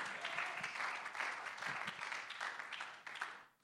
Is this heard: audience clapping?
yes